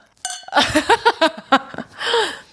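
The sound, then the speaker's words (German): Glasses clink together in a quick toast, a bright ringing tap at the start, followed by a burst of rhythmic laughter that trails off. “Prost!”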